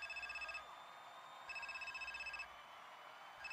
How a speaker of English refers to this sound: God damn, this motherfucking phone just ringing. Didn't I tell you to turn this motherfucker off?